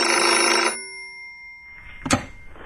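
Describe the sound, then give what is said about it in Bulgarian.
A loud telephone bell rings in an office for under a second, a bright metallic jangle, then cuts off, leaving a faint hum and a brief soft clatter, like the receiver being picked up. “Така че се готвих вече да си тръгвам от кантората, когато телефонът извъня.”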